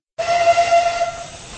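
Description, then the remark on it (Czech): The whistle of a special steam train carrying Masaryk's saloon car, run for the celebrations of T. G. Masaryk's birth, sounds one sustained, loud note that gradually fades, wrapped in a broad rush of hissing steam that carries on after the tone dies away. No one speaks. “Součástí oslav Masarykova narození bylo vypravení zvláštního parního vlaku s Masarykovým saloním vozem.”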